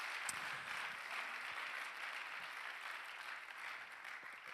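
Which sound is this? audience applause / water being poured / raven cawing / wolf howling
audience applause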